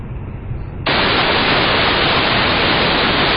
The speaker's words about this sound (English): So it sounds like white noise. That's real ciphertext. We're actually taking the ciphertext as it comes in and just sending it through the codec